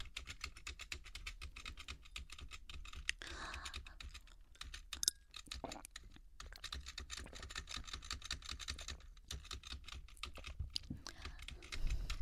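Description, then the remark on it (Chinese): Rapid, continuous keystrokes clatter on a computer keyboard as someone plays a game, steady with brief pauses, a busy rhythm of clicks filling the whole stretch with no voices. “你别玩了，等一下，我把键盘都给你拿走。”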